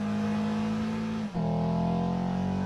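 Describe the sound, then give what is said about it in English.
The engine of a 2015 Acura TLX hums steadily, briefly drops off for a moment, then climbs again with a rising, revving tone that holds strong to the end. No voices. “It also enhances the natural sound of the engine.”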